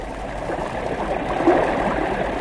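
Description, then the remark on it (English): Swirling floodwater from a creek overflowing its banks in the Ohio River basin rushes and churns in a steady, dense wash of sound, fairly loud, with faint gurgles rising briefly midway and no voices. “Creeks leave their banks to lap eagerly at foothill hen coops and barns, and then swirl on toward the rising Ohio.”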